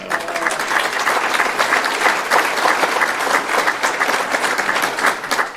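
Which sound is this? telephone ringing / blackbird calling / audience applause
audience applause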